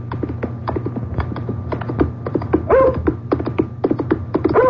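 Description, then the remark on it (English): A dog barks and yelps amid a busy stream of sharp, rapid clattering knocks from a horse galloping furiously with a rider, over a low steady rumble, moderately loud, with no voices, on a lonely, hard-frozen moor road on a still January afternoon. “First the dog, and then a man on horseback, galloping furiously.”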